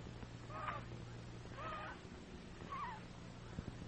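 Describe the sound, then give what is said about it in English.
A goose honks three times in a slow, uneven series, each call short and nasal, over a steady low background hum. “The old gray goose am I. I stretch my neck and cry at puppies passing by.”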